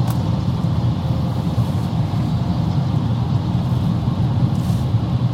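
A loud, steady low-pitched rumble of a big 53-foot semi truck engine, continuous throughout with no pauses and no voices.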